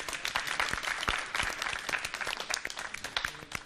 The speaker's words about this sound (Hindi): इनकी भी हौसला अफजाई होनी चाहिए जोरदार तालियों के साथ।